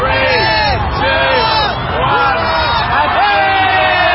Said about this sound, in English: In one of the globe's most watched New Year's Eve spectacles, the crowd counted down the last seconds of 2019 as a luminescent crystal ball descended down a pole.